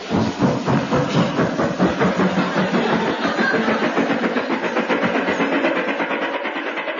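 A loud, continuous mechanical rumble with rapid rhythmic chugging, like an engine revving blended with train clatter, sustained steadily for several seconds with no voices.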